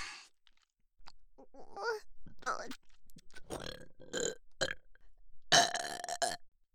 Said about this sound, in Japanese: 汚いゲップ、もっともっと聞いてほしいよ。